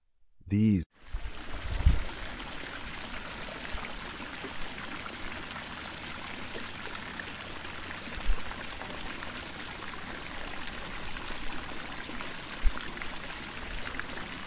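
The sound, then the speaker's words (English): A babbling brook flows steadily throughout, a continuous rush of water with occasional soft low splashes, opening with a brief tonal chime before the stream sound takes over. “Next, Zephyr swooped by the babbling brook, where it saw glistening fish jumping cheerfully.”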